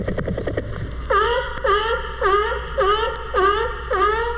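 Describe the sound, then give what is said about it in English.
A pleased male capybara makes a quick run of short clicking pulses, then a steady series of six buzzy, nasal calls, each with a rising-then-falling harmonic tone, repeated evenly at about two per second. “And this is the sound the capybara makes when he's pleased.”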